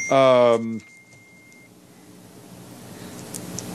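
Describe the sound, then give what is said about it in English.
A single loud electronic beep from a mobile phone at a briefing, lasting about half a second, followed by quiet ambience with a faint low murmur. “I think somebody's trying to tell me something because it keeps beeping.”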